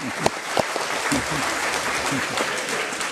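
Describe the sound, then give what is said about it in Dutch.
Steady applause in a Dutch Provinciale Staten (provincial council) meeting after a vote on a candidate deputy, a dense wash of clapping that holds at an even level throughout, with a few sharper individual claps standing out near the start. “Tweede applaus.”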